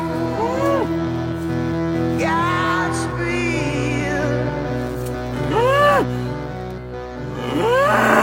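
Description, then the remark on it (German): An emaciated cow that has broken out of its pasture and wanders on a field track bellows again and again, raising its head to the sky, four or five drawn-out, rising-and-falling moos, loud, over a steady low droning background. “Eine abgemagerte Kuh. Sie ist aus der Weide ausgebrochen und irrt auf einem Feldweg umher. Wieder und wieder reckt sie den Kopf schreiend gen Himmel.”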